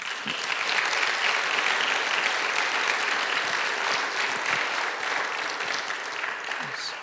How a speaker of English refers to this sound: So why don't we just give the Lord a hand clap